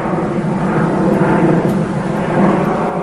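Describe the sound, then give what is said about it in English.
A loud, steady roar of an aeroplane passing overhead in Penshurst, Kent, among hedges and green fields, a dense rumbling wash of engine noise that holds constant throughout with no voices. The plane bears a big letter P. “I'm standing out in Penshurst, surrounded by hedges and green fields, but I can also see an aeroplane.”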